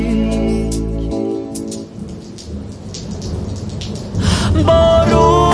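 Steady rainfall with a deep rumble of thunder underneath, blended with sustained musical tones at the start and end; no one speaks.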